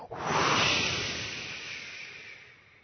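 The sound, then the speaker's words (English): A single long, forceful whooshing exhale, breathy, starting with a sharp push then slowly fading over a few seconds, with no talking. “And we're going to whoosh it through again.”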